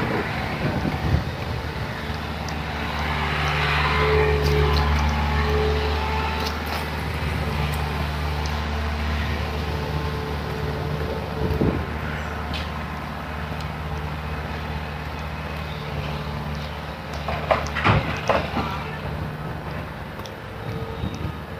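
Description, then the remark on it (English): A really chilly wind, likely inflow from a storm, buffets the microphone in a steady low roar as someone walks right into it, with a rumbling, droning undertone and a few sharper gusty crackles toward the end. No one speaks. “I'm walking right into the wind.”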